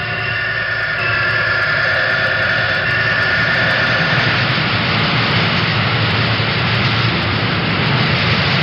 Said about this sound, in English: We walked around the machine and picked up the sounds of the auxiliary equipment. This is the oil circulating device that circulates oil around the bearing of the rotary condenser, which is inside the machine.